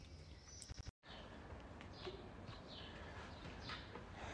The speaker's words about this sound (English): As you can hear, it's a beautiful morning. Birds are singing.